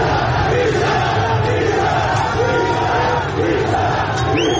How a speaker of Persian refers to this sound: تصاویری هم از درگیری نیروهای امنیتی و پلیس با معترضان در اطراف باغ سپهسالار منتشر شده که فریاد بیشرف بیشرف از سوی معترضان شنیده می شود.